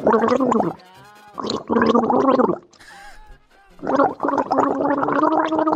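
Someone gargling with plain water in the morning, in three loud, bubbling bursts, each a throaty rattling tone with a rapid wobble, separated by short pauses and a soft splashy gurgle in between.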